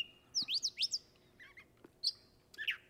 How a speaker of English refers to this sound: Yes, and we have a vocalization here for a catbird. We do. It's one of the mimics, and he's a chatty bird. On and on.